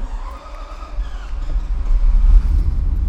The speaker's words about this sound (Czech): A já bych měla na závěr prozbu, můžeme se některé z těch aut nastartovat? Určitě. Tak a teď už usedáme do krásných semišových sedaček.